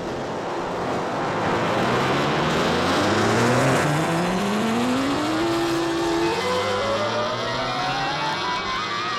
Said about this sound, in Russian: Сколько автомобилей? Куда они все мчатся?